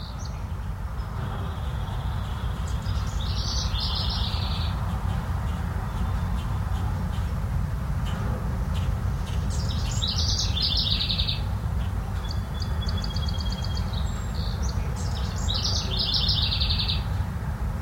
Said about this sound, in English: Hear the songs of the birds? If you look closely in the trees, you might not even see them, but sometimes you can see them, and they're there,